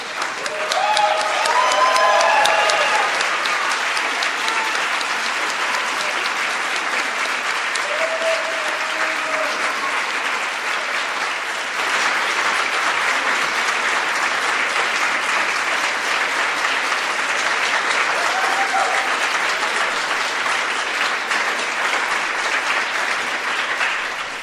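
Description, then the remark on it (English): Loud, sustained applause from a large audience giving a standing ovation for over twenty seconds, a dense steady roar of clapping with a few faint cheers and voices mixed in. “I think they deserve a big standing round of applause, don't you?”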